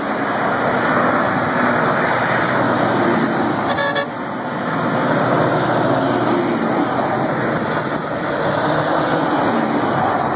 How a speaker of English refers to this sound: That's a military convoy. Where is this where this video was shot with the military driving by honking back at you guys? I believe that one was in Delaware.